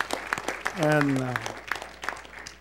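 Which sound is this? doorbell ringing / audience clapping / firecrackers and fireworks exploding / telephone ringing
audience clapping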